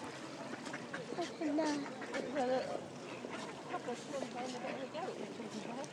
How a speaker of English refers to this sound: What can you hear? Swans. And? Ducks.